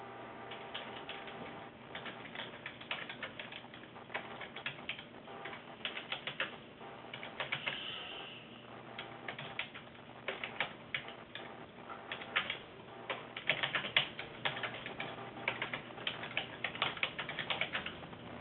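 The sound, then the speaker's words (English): Steady typing on a computer keyboard, a dense run of quick key clicks and taps that continues throughout at a moderate level, with no voices. “Oh, I'm sorry, I was typing elsewhere here in the minutes.”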